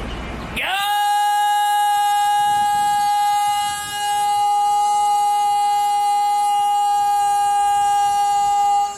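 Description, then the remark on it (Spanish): A gas delivery truck's vendor call, heard from afar on a Saturday at 8 in the morning, rings out as one long, loud, steady tone with a bright, horn-like buzz. It holds for about eight seconds, briefly dipping in the middle, with no talking. “Le digan, oiga señor del gas, pues ya, ¿qué cree? Ya no puede andar por la vida con esos gritos.”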